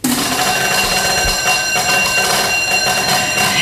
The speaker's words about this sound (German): Pfeile wurden installiert, damit man einen Schalter betätigt. Sie hat diesen Schalter betätigt und die Schulglocke aus den 60ern hat sich gemeldet.